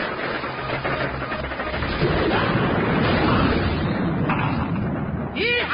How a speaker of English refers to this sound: Whatever this lightning gun does, it sure packs a wallop.